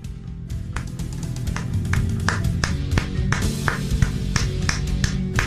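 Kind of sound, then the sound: crowd, people clapping hands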